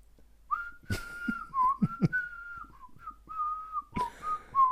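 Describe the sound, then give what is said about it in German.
A Christmas carol tune is whistled alone in clear, steady notes that step and glide through a short phrase, with a few sharp knocks breaking in partway through and near the end. “Ihr Kinderlein kommt mit, oder?”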